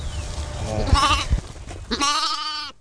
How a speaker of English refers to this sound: So we just had a whole bunch of the lambs, or a whole bunch of the ewes had lambed. In other words, now we have a whole bunch of cute little lambs.